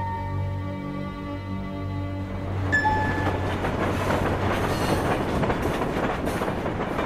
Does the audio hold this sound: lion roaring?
no